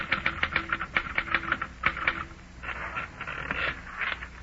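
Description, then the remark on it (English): Rapid, evenly spaced mechanical clacks of a typewriter as someone sits down to get writing on paper, the keystrokes running into a denser, busier burst of typing toward the end, with no voices. “You finish the book, get out of bed hurriedly, and sit down at your typewriter.”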